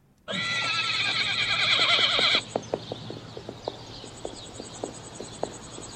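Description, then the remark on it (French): A horse, frightened by a crop-spraying plane flying over a field, lets out a loud, shrill, trembling whinny lasting about two seconds, followed by a series of sharp hoof clops on hard ground, with no talking. “Un jeune homme se trouve avec son futur beau-père, un vieux fermier, lorsqu'un avion survole le champ pour répandre des pesticides et effraye son cheval.”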